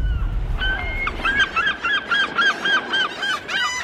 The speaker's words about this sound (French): Les oiseaux d'Hitchcock, Fabienne, dans sa chambre, 40 goélands en pleine orgie de pepperoni. Il y en a partout, la chambre est dans un état indescriptible.